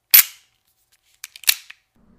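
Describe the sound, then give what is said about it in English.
A revolver being cocked: one sharp metallic click, a short pause, then a quick cluster of four or five smaller mechanical clicks around a louder snap, with no voices. “Johnny hears a revolver cock.”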